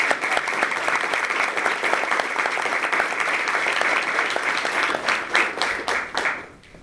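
Sustained audience applause, a dense wash of many hands clapping at steady loudness, thinning toward the end into a few scattered individual claps before fading out.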